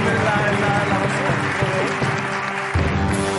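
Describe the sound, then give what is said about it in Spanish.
A crowd applauds the props and art team (Atrezo y Arte) of the show La Resistencia steadily and loudly for a few seconds, with dense clapping mixed with cheering voices and shouts throughout. “Un aplauso para el equipo de Atrezo y Arte de La Resistencia.”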